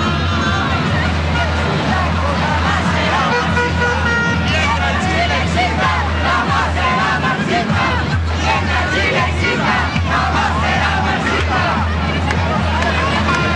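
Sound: crowd shouting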